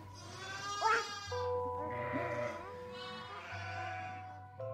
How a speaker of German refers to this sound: Das Schaf blöket. Sie hat Merkmal gefunden. Dies Blöken, das ihr am stärksten Eindruck macht, das hervorsprang, am tiefsten eindrang, bleibt ihr.